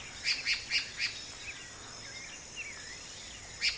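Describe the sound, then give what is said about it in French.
Frogs croaking at night in a quick, regular rhythm of four sharp chirping croaks, then a pause with softer trilling calls and one more croak at the end, over a faint background hiss. “Les grenouilles braillent en cadence.”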